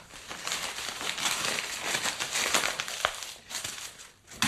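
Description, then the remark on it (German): A paper shredder chews through mail, including advertising and a bank reminder letter, a steady, dense rasp of crunching and tearing paper that runs for several seconds with no voices. “Ach, der moderne Mensch benutzt einen Schredder”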